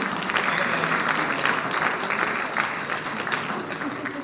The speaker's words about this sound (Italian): Un applauso.